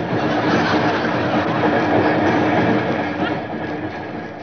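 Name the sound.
train running on rails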